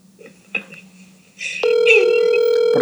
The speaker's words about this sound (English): Boy, the ringtone's going to be so much fun if people listen to it for like 10 hours.